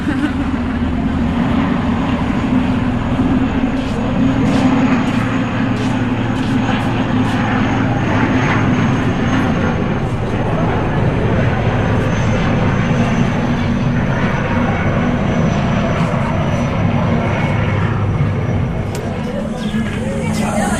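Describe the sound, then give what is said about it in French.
A MONUSCO helicopter flies over a camp, its loud, steady engine roar and rotor thrum filling the whole stretch, with indistinct voices faintly beneath it. “Ah, alors que l'hélicoptère de la MONUSCO survole le camp.”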